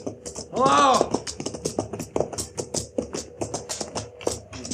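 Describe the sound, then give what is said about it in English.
Horse hooves clip-clop in a quick, steady rhythm of crisp taps as a man arrives with his horse and wagon, continuing throughout, interrupted briefly near the start by a short, loud, wavering cry. “And look at that horse, too.”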